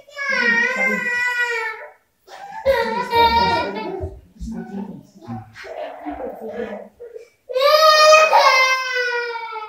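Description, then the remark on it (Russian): Children fuss and cry in loud, high-pitched wailing bursts, with a stretch of quieter whimpering and fussing in between before another strong cry at the end. “Сегодня у детей неудачный день будет.”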